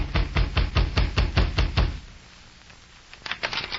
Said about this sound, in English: It was after dark when he dismounted and rapped on the door.